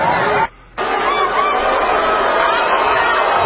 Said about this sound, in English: This is the Somalian Music Fest in Minnesota. When Ilhan Omar gets up on the stage, she is booed. They begin to tell her to get the blank out.